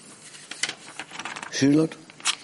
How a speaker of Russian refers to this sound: Извиняюсь, перевернул страницу.